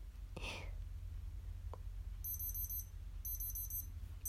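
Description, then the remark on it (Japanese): A digital thermometer beeps in two short bursts of rapid, high-pitched chirps, each lasting about half a second, over a quiet low hum after a brief soft rustle, as the temperature reading counts up while a body temperature is taken, ending at 36.3°C. “こうやって温度がピピピピって上がってってるって知らなかった。”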